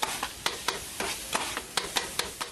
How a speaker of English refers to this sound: So we hear some of the sounds around his neighborhood as there's a street vendor grilling chicken.